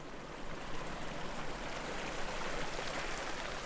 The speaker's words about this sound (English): I hear it before I see it. Behind some head-high shrubs is a bright blue hole in the ground that's gushing water. A desert spring.